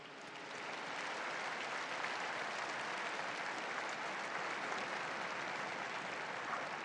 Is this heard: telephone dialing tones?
no